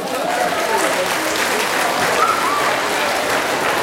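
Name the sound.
audience applause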